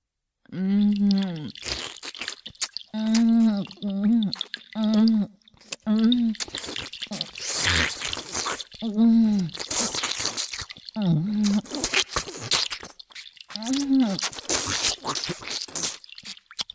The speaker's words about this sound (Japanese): ダメダメ。もっと大きくあえぎなさい。女のフェラ音に負けないようにね。